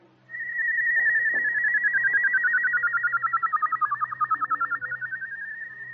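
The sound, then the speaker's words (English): A person whistling two notes at once, loud, steady at first, then pulsing into a quick wavering warble as one note is held still while the other slides against it, sustained alone for several seconds. “When you whistle, you just hold your mouth straight and whistle one note, and then add another one to it”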